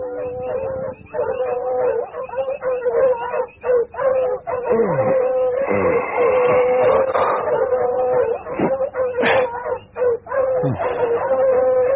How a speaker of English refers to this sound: One night, Volator was awakened by the dogs barking excitedly.